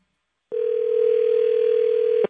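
A telephone dial tone for an outgoing call to Eugene, Oregon: one steady, unbroken mid-pitched hum that holds at an even loudness for nearly two seconds, then cuts off abruptly. No voices are heard.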